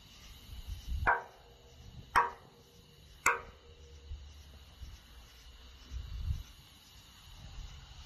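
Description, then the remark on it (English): Three sharp, evenly spaced knocks rap out one after another, each a crisp hard strike. Afterward only a steady faint hum and a soft low rumble remain. “Rap on it 3 times.”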